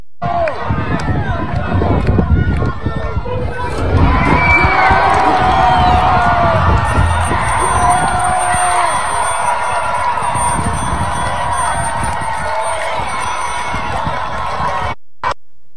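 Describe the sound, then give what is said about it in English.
A large crowd, heard in a video being played, roars and cheers continuously, dense babble of many voices with occasional whoops and shouts rising above the steady, loud din throughout. “Play that video again. I want you to look at the crowd and ask yourself, as you watch this video, ask yourself, how many of the people in that crowd are going to teach my children in school?”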